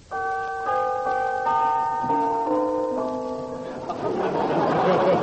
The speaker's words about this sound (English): Well, here we are, Lionel. Ring the bell, John.